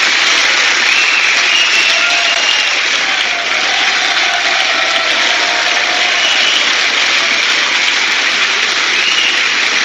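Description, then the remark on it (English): A loud, steady wash of crowd noise fills the whole stretch, a dense roar of cheering and applause as Donald Trump is at the podium to give a speech, holding at a constant level without any break. “Place is roaring.”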